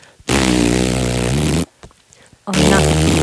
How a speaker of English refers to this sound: That's an elephant flatus.